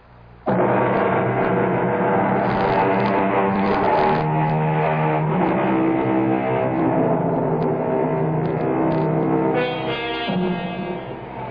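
Loud, continuous rumble of large engines idling and revving at a bus terminal in a large eastern city, a dense droning hum that holds steady for about eleven seconds with no voices.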